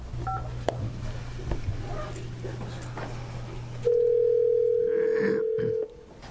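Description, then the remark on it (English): A phone call being dialed during a hearing to reach the owner of Shaver Transportation: after a few seconds of low hum and faint clicks, a loud, steady mid-pitched telephone tone sounds for about two seconds, then cuts off abruptly. “So I'm going to make that call right now”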